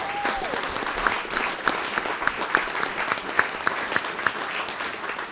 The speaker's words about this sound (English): Give him a big round of applause, please. Welcome to lovely Tinswick. We have a lovely town here.